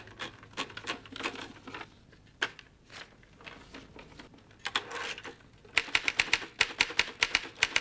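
Rapid, irregular clacking of typewriter keys as the name Grzegorz Brzęczyszczykiewicz is typed in a scene from the film Jak rozpętałem II wojnę światową; sharp percussive strikes in uneven bursts that grow louder and denser toward the end, with no voices.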